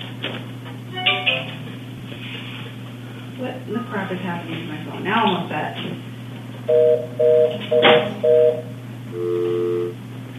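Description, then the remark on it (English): A phone beeps out a quick series of four evenly spaced dialing tones, followed by a longer two-tone beep, over a steady electrical hum with muffled voices earlier. “What in the crap is happening to my phone?”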